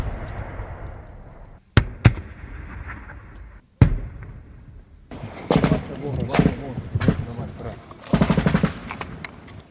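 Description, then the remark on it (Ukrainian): Single sharp gunshots ring out, then rapid bursts of automatic machine-gun and rifle fire aimed at the speakers' position rattle on for several seconds, loud, with voices faintly in the background. “Що, стріляють по нам з пулеметів, з автоматів.”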